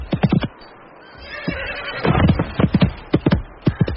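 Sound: horse neighing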